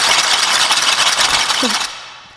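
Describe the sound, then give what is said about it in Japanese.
A voice imitates a twin-turbo engine: a loud, sustained hissing roar with a rattling texture, a brief pitched whine near the end, then an abrupt cutoff to near silence. “はい、次ツインターボ。”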